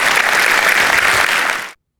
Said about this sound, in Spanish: Si Dios se habló, dé un aplauso al Señor, que Él se lo merece. Amén.